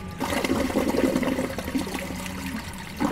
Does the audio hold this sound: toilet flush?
yes